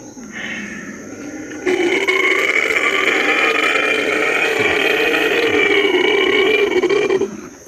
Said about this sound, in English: Angela says it's a howler monkey, and what a sound.